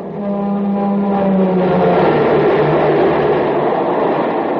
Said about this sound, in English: But now listen to that same train with super fuel in its tank.